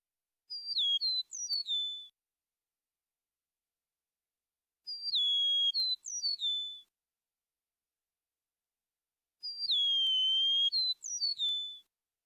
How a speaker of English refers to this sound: Common Loon.